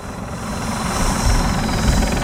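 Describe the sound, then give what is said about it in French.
A helicopter drones steadily overhead, its rotor producing a dense, rumbling thrum with rapid low chopping pulses that stay loud and continuous throughout, with no voices. “Un peu d'hélicoptère.”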